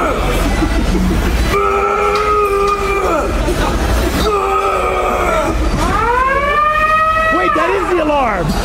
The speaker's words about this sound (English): Today we in Planet Fitness and we're going to make the lunk alarm go off.